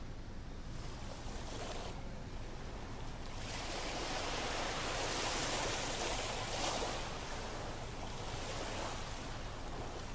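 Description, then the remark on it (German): A steady roar of traffic on a German federal highway (Bundesstraße) at Eglersheim, broad and washing, swelling and easing slowly like surf, with no voices and no distinct individual vehicles standing out. “Klingt die Bundesstraße nicht ein bisschen wie das Meer? Höre genau hin.”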